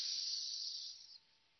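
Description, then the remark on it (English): A steady, breathy snake-like hiss sustains for about a second, fairly loud, then drops off abruptly into quiet; no talking. “Do you hear that snake sound?”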